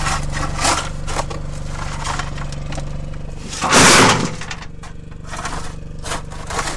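An electric jackhammer, powered by a generator running in a car at the top of the pit, chisels into an opal layer in a long, narrow mine hole in Australia, over a steady droning motor hum, with irregular rough impacts and a louder burst of grinding and crumbling about halfway through. No one speaks.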